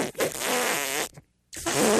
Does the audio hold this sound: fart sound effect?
yes